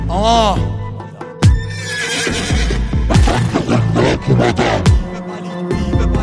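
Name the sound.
horse neighing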